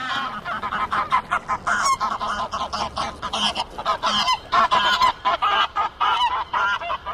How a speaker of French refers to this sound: Décollage d'oies cendrées, nous étions en baie de Somme avec l'ornithologue Philippe Carouette.